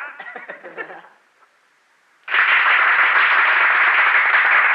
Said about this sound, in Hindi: ये तो तालियों के लिए बहुत बहुत धन्यवाद।